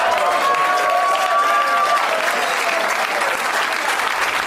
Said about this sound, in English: Oh, now you're clapping, assholes?